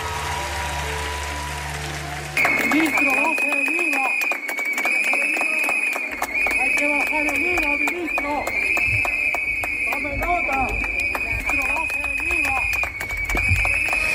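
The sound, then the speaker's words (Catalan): After a couple of seconds of murmuring, a loud, shrill chorus of whistles blown by gallery owners at the opening of the ARCO art fair in Madrid, protesting for reduced VAT and against minister Urtasun, erupts and keeps blaring steadily, mixed with clapping and crowd voices until the end. “Els galeristes han fet sonar els seus xiulets a favor d'un IVA reduït i contra el ministre Urtasun durant la inauguració de la fira”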